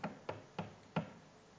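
Four knocks on a door in a quick, slightly uneven rhythm, each a short hollow thud fading fast, fairly quiet, with no voices.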